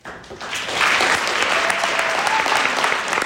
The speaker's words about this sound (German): Mächtig Applaus bekamen unsere Schauspielerinnen und Schauspieler aus der Oberstufe, die Ende März auf der Kaiserburg ihr Theaterstück präsentierten.